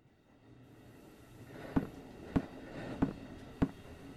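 A steady low rumble of a train interior, with four sharp, evenly spaced clacks of wheels over rail joints about every half second, growing slightly louder as it goes. No voices.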